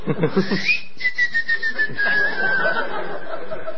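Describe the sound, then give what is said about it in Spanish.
A long, steady whistle that glides slowly downward in pitch, clear, preceded by a quick series of short, rhythmic bursts that sound like soft chuckling. “La rueda del boyero, no, las ruedas y el silbido.”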